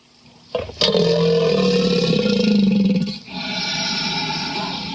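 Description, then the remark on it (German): A deep, rumbling bellow from a crocodile swells in after a sharp onset, holding low and throaty for a few seconds before dropping off into a rougher, sustained growl. No talking. “Das nennt man auch Bellen oder Grunzen. Insbesondere Alligatoren machen das sehr gerne.”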